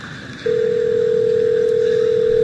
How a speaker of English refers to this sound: What happens is the Google Assistant makes the call seamlessly in the background for you. So what you're going to hear is the Google Assistant actually calling a real salon to schedule the appointment for you.